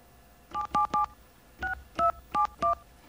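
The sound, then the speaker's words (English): Seven short touch-tone beeps from a phone keypad as a phone number is entered, each a steady dual-pitched tone, punched in two quick groups: three close together, a pause, then four more in an even rhythm. “Okay, now we're going to put BAI's phone number in there.”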